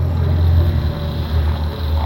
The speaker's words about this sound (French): Vous entendez ça? Un hélicoptère, vous le voyez? Oui, on le voit d'ici, il vole pas!